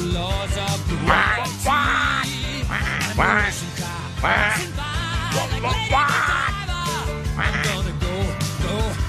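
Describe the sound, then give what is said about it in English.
Loud, squawking duck quacks burst out again and again in quick irregular succession, layered over a busy, continuous backing sound that runs throughout. “Those squawks were perfectly placed in that.”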